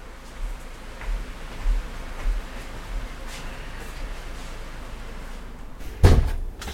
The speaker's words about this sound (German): Da mache ich jetzt mal wieder, während ihr das Bild genießt, die Tür wieder zu.